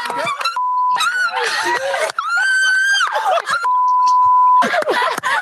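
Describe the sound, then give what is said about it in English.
Loud, excited high-pitched screaming in several bursts, interrupted twice by a steady electronic bleep tone. “did you know that that's what I was going to come and complain about, the screaming this episode?”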